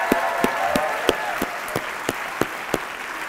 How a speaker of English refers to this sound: And a very big thank you again to all of you musicians who are doing so much to make our Christmas special already. Thank you. Give me one more round of applause just to say thank you.